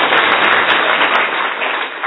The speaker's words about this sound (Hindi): ताली थोड़ा बजानी हो तो जोर से बजाइए।